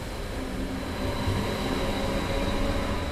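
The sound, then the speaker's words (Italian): A steady, loud rumble of a train at a railway station at 6:40 in the morning, with a constant low mechanical drone and a faint high whine running throughout, no voices. “Allora, sono le 6.40, arrivo da Massagno, sono venuto in bici e vado a prendere il treno delle 7.02 per Alsdorf.”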